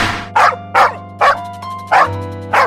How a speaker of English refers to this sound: Dog. Let's talk to the puppy.